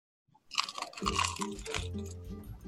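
A loud crunch as someone bites into a crusty bagel, followed by a couple of seconds of steady crackly chewing with no talking.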